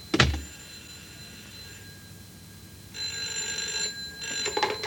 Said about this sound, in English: Oh, that's the telephone. Would you excuse me?